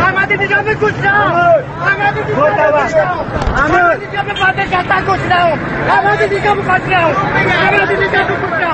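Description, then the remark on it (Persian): A loud, dense crowd of many voices shouts and calls out at once as President Ahmadinejad's open-top car passes through the streets, some people running after it, cheering or shouting that they are poor and hungry; overlapping excited cries rise and fall steadily for several seconds with a low rumble of traffic underneath. “برخی از مردم نیز همزمان با عبور اتومبیل او به دنبالش می دوند یا ابراز شادمانی می کنند که رئیس جمهور را دیدند، و یا برخی فریاد می زنند که تنگ دست و گرسنه‌اند.”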